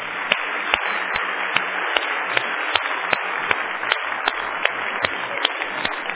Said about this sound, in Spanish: Vale un aplauso.